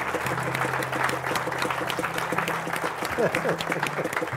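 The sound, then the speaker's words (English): An audience applauds steadily throughout, a dense patter of many clapping hands with scattered cheers and a brief whoop, over a low, steady hum. “So, if the angels are cheering, we should probably cheer.”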